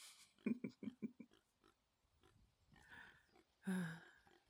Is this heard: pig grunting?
yes